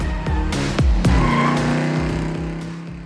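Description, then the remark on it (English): Drop-top convertible car engines rev loudly up and down Ocean Drive in South Beach, Miami, pitch rising and dropping in quick bursts, with a brief tire squeal and continuous motor rumble throughout, no voices. “And of course, South Beach, that iconic shoreline of newly built skyscrapers reaching into the sky, with drop-top convertibles revving up and down Ocean Drive.”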